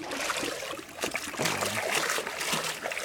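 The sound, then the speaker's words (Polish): Water trickles and splashes, a steady dribbling broken by a few sharper splatters as water drains out of a net sample scooped from among plants in a pond, holding plants and mud. “W takiej próbie z wody zwykle poza roślinami się bierze dość dużo mułu, więc żeby później można było to oglądać, tak, no trzeba sobie to dość dobrze przepłukać.”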